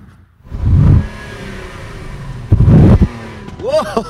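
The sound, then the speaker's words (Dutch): The engine of a luxury limousine with stars on the hood cranks and starts, then revs loudly twice in strong bursts before settling to a steady idle. “Zullen we even naar het geluid luisteren dan? Slinger hem aan voor je.”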